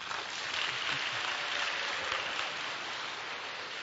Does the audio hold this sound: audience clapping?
yes